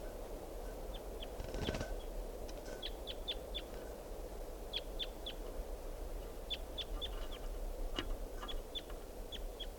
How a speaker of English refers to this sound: Recording a wild bird here.